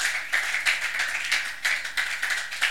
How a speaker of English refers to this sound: Give a mighty clap offering unto the Lord.